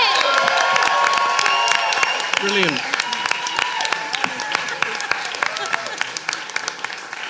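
A crowd claps steadily and loudly throughout, with cheers and whoops rising over the dense, crackling applause, which eases off slightly toward the end.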